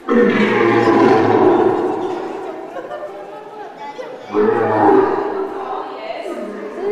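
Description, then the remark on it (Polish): A lion roars twice: a long, loud, rumbling roar that fades, then a shorter second roar after a pause, played for children identifying African animals by sound at a workshop class. Voices chatter in the background. “Lew.”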